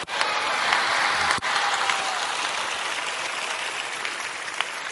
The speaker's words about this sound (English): Thank you, those who are clapping. Your hands will never be empty.